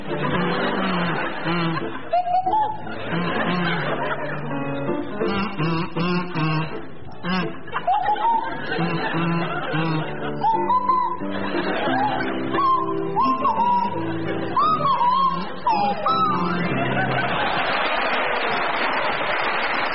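Jeremy Hardy on a buzzy kazoo and Tim Brooke Taylor on a swooping Swanee whistle play a wobbly tune from a stage musical together, with audience laughter and chuckles rising throughout the performance.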